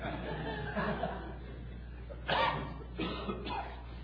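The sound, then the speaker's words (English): A sharp, noisy sneeze bursts out, followed moments later by a couple of shorter breathy bursts, over a low steady hum with faint murmuring. “God bless you.”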